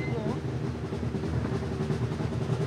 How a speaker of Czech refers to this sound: Blíží se nám další vozidlo.